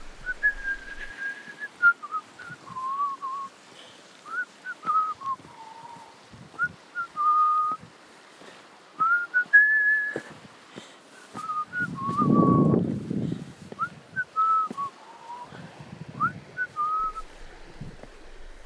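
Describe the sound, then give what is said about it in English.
A person whistles a cheerful, wandering tune out loud while hiking alone in a quiet canyon in Moab, phrase after phrase with short pauses; a brief low rumble passes midway. “I had a quiet canyon to myself, and as I walked, I realized I was whistling out loud.”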